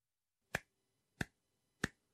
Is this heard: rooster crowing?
no